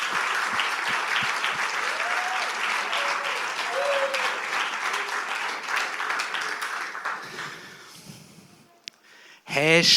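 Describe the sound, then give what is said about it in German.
An audience applauds the children after their songs and skit, clapping steadily in a dense, sustained round that thins out and fades toward the end, followed by a brief loud burst of noise. “Ich glaube, das ist nochmal ein Applaus für die Kinder wert.”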